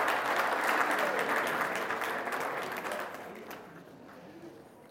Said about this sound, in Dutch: Applaus.